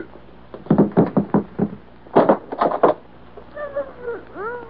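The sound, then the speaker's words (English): A door is worked open: a quick series of heavy knocks or rattles in two bursts, then a drawn-out, wavering creak as it swings, clear with no talking. “Open that door there.”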